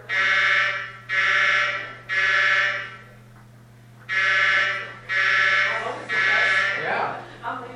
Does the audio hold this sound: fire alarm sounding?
yes